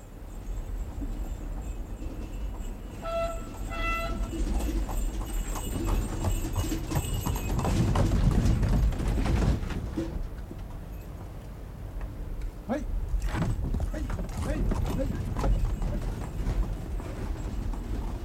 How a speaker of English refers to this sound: The first sound you will hear will be the rattling of a carriage, a sound from days gone past.